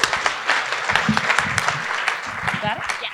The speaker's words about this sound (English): How about a round of applause for our newest member here?